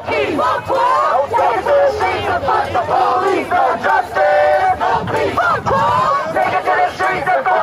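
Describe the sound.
A crowd of protesters gathered near the White House shouts and chants continuously as the president speaks, many voices overlapping in a loud, rough roar with rising yells and harmonic cries throughout, broken only by brief dips.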